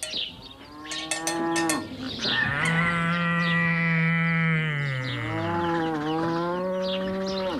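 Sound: cow mooing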